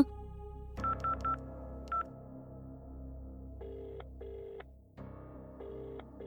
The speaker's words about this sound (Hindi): घर में बाबूजी को खबर करनी होगी, घर में फोन लगाओ, मुझे बात करनी है।